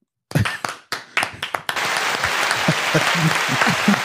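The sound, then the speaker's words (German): A brief burst of applause added in post-production: a few scattered claps at first, then quickly building into a dense, steady round of clapping from a small crowd, loud. “Kurzer Applaus.”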